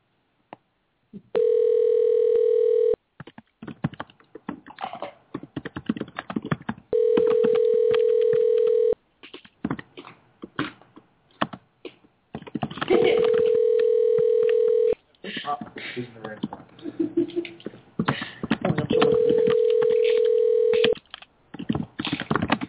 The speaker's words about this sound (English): All right, here we go. Calling them right now.